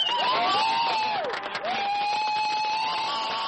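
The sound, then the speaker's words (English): A large crowd of baseball fans in St. George cheers loudly and steadily during the Western Baseball League championship trophy presentation, with a sustained high-pitched whistle or whoop sliding over the roar. The noise briefly dips around the middle before swelling again. “Lots of cheering among the fans.”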